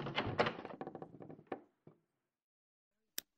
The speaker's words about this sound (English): Room 11 was on the top floor. I opened the door and turned on the light.